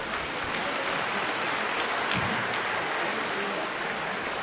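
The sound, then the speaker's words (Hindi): A large audience claps loudly and steadily for several seconds as a bouquet is presented to BapDada, a dense, continuous wash of hand claps with no pauses or voices standing out. “सभी भाई बहने जोर से ताली बजाएंगे।”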